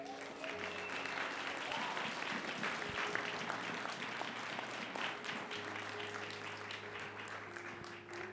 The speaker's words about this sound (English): Let's clap hands for Jesus.